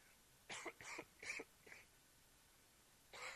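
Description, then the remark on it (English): A quick run of four dry coughs, then a short pause before a fifth begins. Fairly soft, with no talking around them. “Sorry, I'm going to be battling through this cough a bit, but I'm going to get through my message.”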